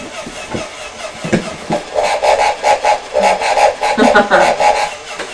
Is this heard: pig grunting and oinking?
yes